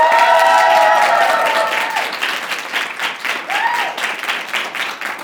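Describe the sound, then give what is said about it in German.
A live audience at an educational centre in Georgsmarienhütte near Osnabrück, Germany, applauds steadily, a dense wash of clapping with a few cheers and whoops rising over it, fairly loud, tapering slightly toward the end. “und wir drei klingen heute eventuell ein bisschen anders und wir sind auch sehr aufgeregt, denn zum ersten Mal mit unserem Podcast sind wir heute live vor Publikum.”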